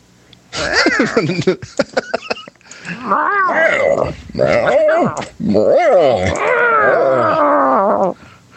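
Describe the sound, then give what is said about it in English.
A man imitates Bane meowing like a cat in a deep, gruff, growling voice, drawing out several rough, rising-and-falling meows one after another, loud. “Can you Bane meowing? Meow.”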